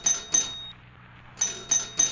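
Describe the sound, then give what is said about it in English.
A doorbell, rung by the police at the door, sounds in sharp, high, metallic bursts: two quick rings, a short pause, then three more in a steady rhythm. No one speaks. “Go to the door”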